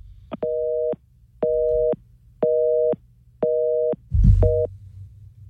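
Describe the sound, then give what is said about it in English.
A telephone busy signal, heard after a dropped phone call with Adam Amin, beeps in steady on-off pulses, about one per second, loud over a low hum, with a brief crackle of noise near the end. “All right, phone, it is Halloween. The ghost and the goblins are getting us big time.”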